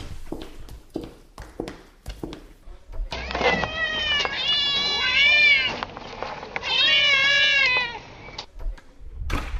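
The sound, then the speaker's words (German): Several grey, white and black kittens mew in high, wavering cries, overlapping in a busy chorus, preceded by a few soft footsteps padding along. “Du kannst dir ein Kätzchen aussuchen. Ich habe graue, weiße und schwarze.”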